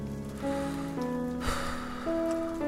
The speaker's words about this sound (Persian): شنیدی؟ رد و برق زد، داره بارون میاد. نمیدونم چرا بارون که میگیره از خود بی خود میشم، صداها رو نمیشنوم، فقط شرشر بارون تو گوشم میپیچه.